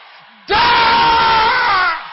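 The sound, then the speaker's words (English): An audience erupts into a loud, sustained collective shout of prayer, many voices blending into one roaring wall of sound for over a second before it tapers off. “Can I hear you shouting it louder?”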